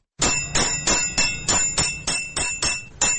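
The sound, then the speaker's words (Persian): A 68-year-old tinsmith's hammers beat on tin in his dark, cold workshop in Taloqan, capital of Takhar province, in a steady, even rhythm, about ten loud strikes in three seconds, each leaving a bright metallic ring that fades before the next blow. No one speaks. “در کارگاه تاریک و سرد حلبی سازی تالقان مرکز ولایت تخار صدای چکش های رستم 68 ساله هنوز هم در میان سکوت بازار می پیچد”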